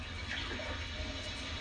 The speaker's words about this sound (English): There you go. Well, there's water running out there.